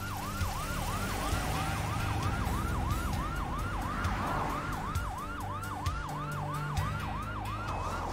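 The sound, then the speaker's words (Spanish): An ambulance siren wails in fast, repeating up-and-down sweeps, loud and steady throughout, over a low rumble of traffic and engine noise, as paramedics load a woman into the ambulance to take her to the hospital in Hilo. “Los paramédicos la suben a la ambulancia para llevarla al hospital de Hilo.”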